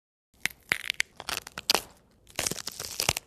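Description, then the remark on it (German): Celery stalks being snapped and crunched, a run of sharp, wet cracks and crisp crunching in uneven bursts, pausing briefly before another dense flurry. “Sellerie.”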